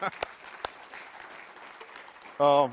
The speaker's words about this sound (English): Can we give God a hand clap for that?